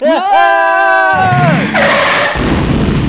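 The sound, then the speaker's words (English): A car skids and crashes: a loud, high tire screech rises and holds for about a second, then gives way to a burst of harsh crashing noise and clattering debris, intense. “Two teenagers killed in a preventable car accident.”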